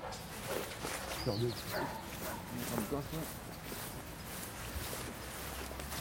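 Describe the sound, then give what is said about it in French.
A dog barks in short bursts and lets out a few high whimpers as it is put in its harness to start work screening people, over a busy outdoor background with some movement and faint voices. “Je vais aller chercher le chien, le prendre en laisse, le conditionner, lui mettre le harnais.”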